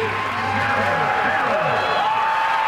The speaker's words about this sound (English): Awesome, awesome moment. You can hear the crowd. Everybody understands what's happening right now. This is a pretty cool moment.